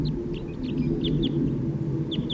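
Quick, high-pitched chitters from a male bird on its way down come in short bursts of two or three notes over a steady, dense low rumble and background clucking.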